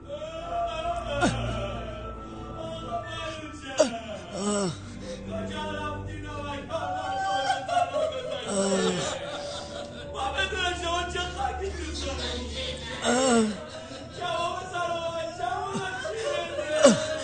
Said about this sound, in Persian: این آدم ها چی میخوان بالا سر من؟ اینا به خاطر تو اومدن، نمیشناسیشون؟ هیچ کدوم اینا نمیخواستن سر به تن من باشه، حالا دارن گریه میکنن.